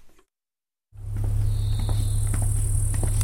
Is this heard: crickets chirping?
yes